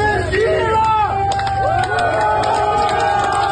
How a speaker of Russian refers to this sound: «Вагнер – сила» – такими восклицаниями и аплодисментами провожали жители Ростова-на-Дону, уходящие из города колонны ЧВК «Вагнер».